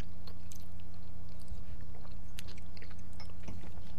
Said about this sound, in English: I wonder, do people like to listen to us chew? They don't really, do they?